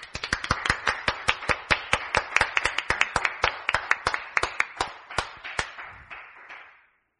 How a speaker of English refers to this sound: Give the Lord a cheer.